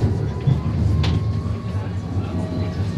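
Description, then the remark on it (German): A tram rumbles steadily as it rounds a curve turning into Pfingstweidstrasse, with faint high squealing tones from the wheels and a brief clatter partway through. “Wir machen jetzt Kurven in die Pfingst-Weidstrasse und die Pfingst-Weidstrasse, die hat ihr das Bild völlig geändert mit dem Tram.”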